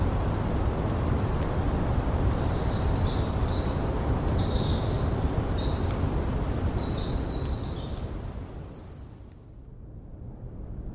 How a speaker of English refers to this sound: These sounds of the Oregon coast and the Eastern Washington Dawn Chorus were recorded by Gordon Hempton, the sound tracker, and co-founder of Quiet Parks International.